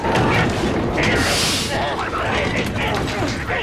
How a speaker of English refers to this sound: The pirates force open the outer door.